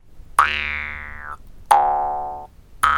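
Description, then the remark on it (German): Metal jaw harp twangs: three sharp plucks, each a buzzing, harmonic-rich tone with a bright vowel-like sweep that rings and slowly fades, the last one cut off. No talking. “Man wird es kaum glauben, aber der ein oder andere Schlag auf die Zähne oder die Zunge bewirkt wahre Wunder beim Versuch, dem Metallgestell einen Ton zu entlocken.”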